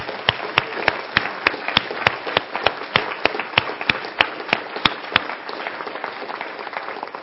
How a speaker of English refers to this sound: And we want to thank our Heavenly Father for being a fantastic provider and a protector. And the one who hears our petitions. Let's give him an even bigger applause.